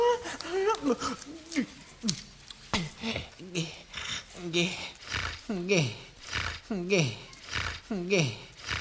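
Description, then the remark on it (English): Heavy, rhythmic nasal breathing from a person with a deviated septum while studying for a test, with a voiced, wheezy whine on each breath, repeating roughly every second and growing steadier toward the end, mixed with voice-like tones. “Stop breathing so heavy, please, we gotta study.”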